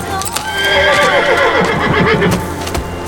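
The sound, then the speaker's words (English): A stallion canters down a hill, its hooves clopping in a quick, uneven beat while it lets out a loud, wavering whinny that falls in pitch over about three seconds. “As if on cue, the great stallion charged down the hill to join them, cantering past the All-Heart soldiers, who sat in silent awe of the magnificent steed, stronger and swifter than even their famed Togairu horses.”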